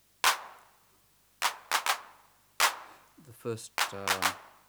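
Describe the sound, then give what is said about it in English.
Hand clap sound of an unmodified 808 drum machine: five sharp, noisy electronic clap hits with brief hissy tails, irregularly spaced, the first played at full accent and slightly stronger. A short burst of voice follows at the end. “Now here's our hand clap on the unmodified machine.”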